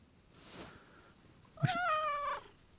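A cat being given the name Glasses Kitty Blanket lets out one drawn-out, wavering meow, clear, after a brief soft rustle; no one speaks.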